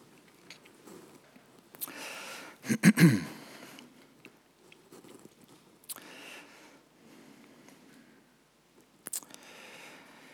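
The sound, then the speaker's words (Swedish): Soft rustling and papery swishes as Bible pages are turned to find the Book of Daniel, with a louder cluster of flips near the start and a few quieter, scattered page turns after, with no talking. “Jag väntar lite grann tills jag bläddrat klart här.”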